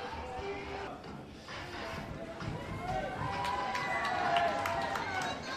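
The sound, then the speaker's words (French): The first soapbox cart of a soapbox race is pushed off a ramp at the start as pushers run alongside for 30-40 metres, their quick footfalls pattering over a steady crowd murmur with scattered voices and calls. “Et voilà, la première voiture est partie, la première caisse à savon, c'est parti.”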